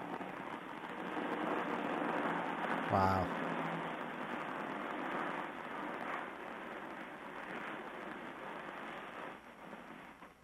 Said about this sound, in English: this is one of our 6 weekly mile-long garbage trains. Can you just hold the phone out the window for a second? I'd like to hear this. Okay, the engine already went by, but this is just all the cars. There's some traffic and stuff, too.